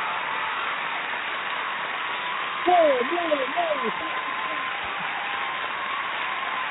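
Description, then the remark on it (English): Steady, hissing crowd applause runs throughout, with a few brief rising-and-falling whoops or cheers breaking through near the middle before the clapping continues evenly. “The crowd has spoken, the majority is there.”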